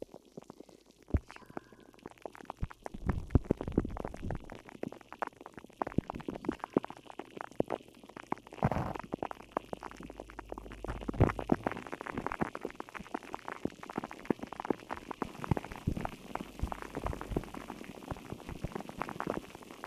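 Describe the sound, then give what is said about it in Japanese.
Carbonated water is poured in and fizzes steadily, with dense crackling bubbles and liquid gurgles continuing throughout, fairly loud, with no voices. “では炭酸水を足していきますね。”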